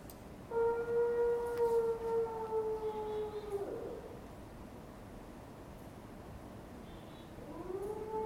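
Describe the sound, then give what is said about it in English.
A wolf in a film clip gives a long, steady howl that slides downward and fades, then after a pause a second howl rises near the end, both fairly loud over a constant low background hiss. “I'm going to show you a clip from one of his wolf films.”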